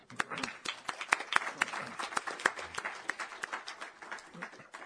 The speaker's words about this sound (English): And those of you who are not with the press can certainly now applaud